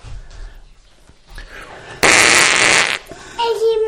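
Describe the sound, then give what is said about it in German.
A child blows a loud, sputtering raspberry right into the microphone, a buzzy fart noise lasting about a second, with quieter voices and movement around it. “du musst doch nicht ins Mikrofon pupsen.”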